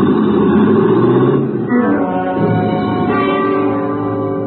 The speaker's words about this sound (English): The shock of fire red hair gunned my car the length of the alley and then swerved on two wheels into the busy street beyond and was gone.